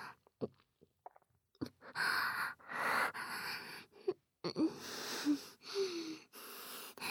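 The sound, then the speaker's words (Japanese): Wet licking and slurping mouth sounds of a tongue licking during oral sex, in irregular bursts with brief pauses, moist smacks and squelches, fairly loud, with no one speaking. “水音響いちゃってる。”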